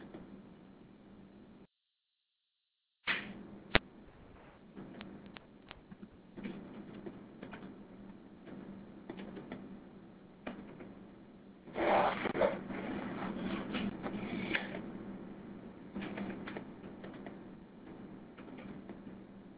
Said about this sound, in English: I know we're all typing here,